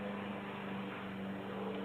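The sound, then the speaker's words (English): A lawnmower engine runs steadily, a constant buzzing drone with a low hum that never changes pace or volume. No one speaks. “Actually, there's a lawnmower going off.”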